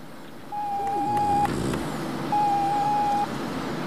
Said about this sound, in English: A green light above his tracks is flashing in time with the beeping noise from the computer. He pulls off the tracking device.